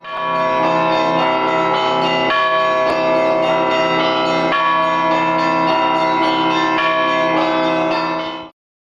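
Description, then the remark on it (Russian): Bells in the bell tower of the Church of the Nativity of the Holy Theotokos in Russia peal continuously at 2 p.m., as they do daily, several bells ringing together in a dense, overlapping clangor with rich lingering overtones, loud and sustained for several seconds with no voices. “А здесь каждый день с колокольни церкви Рождества Пресвятой Богородицы в 14 часов в память о павших на первом ратном поле России звонят колокола.”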